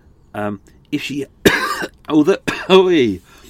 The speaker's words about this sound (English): I haven't had a cup of tea, that's why I'm coughing.